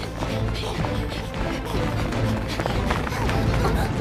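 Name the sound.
running footsteps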